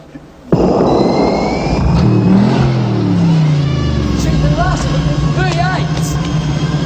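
A supercharged, 600-horsepower V8 car engine that runs on nitro bursts into a loud roar and revs, its deep pitch climbing and dipping, with a thin high whine chirping over the sustained rumble.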